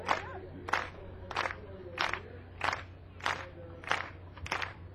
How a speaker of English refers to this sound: Yeah, keep clapping. Keep clapping.